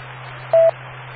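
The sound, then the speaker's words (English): A single short radio key-up beep, a steady mid-pitched tone lasting under a fifth of a second, sounds over a constant bed of radio hiss and low hum. No one speaks. “I got the beep.”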